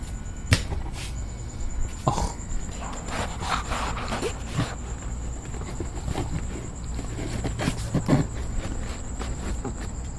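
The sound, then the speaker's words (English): A cricket chirps in a steady, high-pitched trill that runs unbroken through the whole recording, while scattered thumps and clattering footsteps sound intermittently over it as a person walks out to the front of a house. “And that poor cricket had to reposition himself quite quickly.”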